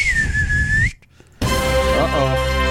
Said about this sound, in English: And we're just going to whistle in and open up the doors on the studio and whistle in on the horses. Here we go on the count of three.